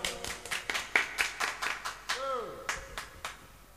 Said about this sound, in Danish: Skulle vi ikke takke og stoppe med at klappe?